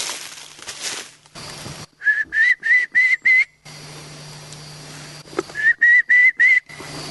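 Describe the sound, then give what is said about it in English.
During a wild turkey hunt, a hunter whistles short, rising notes in two quick bursts of about five, a kiki call imitating a young turkey's kee-kee, loud against a steady low hum. “I'm whistling. That's called a kiki.”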